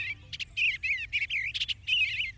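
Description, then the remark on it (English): An eastern bluebird sings from the edge of a meadow, a mellow, burbling warble of short phrases in quick succession, clear, over a faint low background rumble with no voices. “A shimmer of blue against the still wintry landscape. We've talked about important bird areas many times here on Bird Note. An eastern bluebird.”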